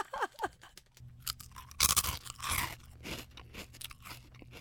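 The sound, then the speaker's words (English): Crunching on cricket flour chips: a string of loud, brittle crunches and bites with crackly chewing between them, no talking over it. “Cricket flour chips, I guess they are.”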